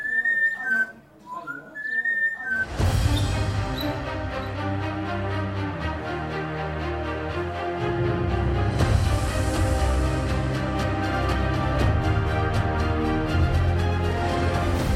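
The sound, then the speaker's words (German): Coco, the parrot of French veterinarian Yves Lajani, whistles a few short, bright rising notes alone for about two seconds after sipping red wine, then full, loud instrumental music abruptly takes over and continues steadily. “Schon nach ein paar Schlucken fängt der Vogel an zu pfeifen.”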